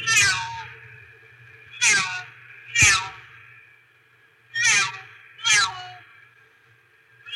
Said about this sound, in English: But I'm not on the computer that I have her audio on, so this is her meowing. It's not as professional, but whatever.